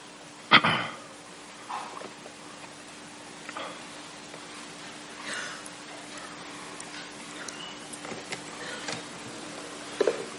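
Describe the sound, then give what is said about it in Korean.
Quiet handling noises: a sharp knock near the start, then scattered soft rustles and small clicks as a book and notebook are opened and a wristwatch is unfastened in preparation for a Bible reading, over a faint hum. “책 펴는 거, 노트 펴는 거, 시계 풀어놓는 거, 그 다음에 또 그 외에도 굉장히 막 물 마시는 거, 마이크 고정하는 거 여러 가지가 있습니다.”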